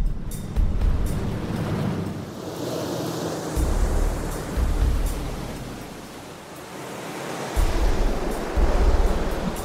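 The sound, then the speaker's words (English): Water surges and washes over a kayak with its cockpit sealed and taped and its plug left open, in a test of how much water gets in; several loud rushes swell and ease every couple of seconds over a steady hiss of splashing spray. “And we're gonna have the water come over the kayak and see just how much water goes into the plug.”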